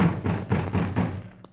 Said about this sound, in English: Donald hammers on the door.